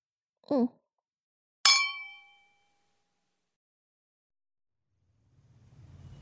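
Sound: glasses clinking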